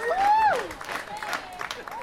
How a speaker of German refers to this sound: Ganz tosenden Applaus